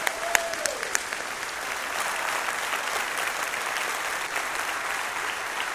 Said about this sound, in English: When you applaud, you should give an ovation that is worthy of His holy name. And so let's do it right now. Let's give a clap offering unto the Lord right now. Yeah, baby.